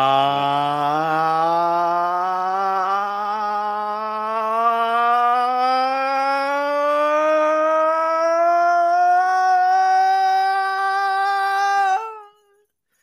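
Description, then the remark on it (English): A single voice imitates the THX logo sound, a sustained rich harmonic tone that rises slowly in pitch and swells steadily for about twelve seconds before cutting off abruptly. “I turned into the THX logo just there.”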